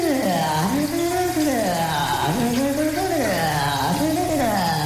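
Steady hiss of running shower water fills the background while a voice sings sensually or hums a gliding, wordless melody in the shower, continuous throughout.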